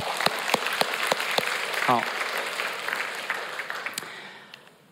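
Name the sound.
audience applause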